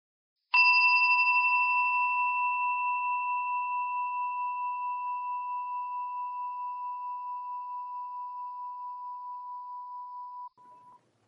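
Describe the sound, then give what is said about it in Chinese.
A meditation bell is struck once to begin a guided body-awareness meditation practice, its clear, pure tone ringing out alone and fading very slowly over about ten seconds, with a slight wavering shimmer before a soft final touch. “待会钟声响起的时候，我们便开始这个练习。”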